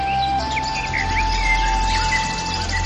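Several birds chirp and warble in overlapping, high-pitched phrases against a steady background hum, a lively outdoor chorus with no talking.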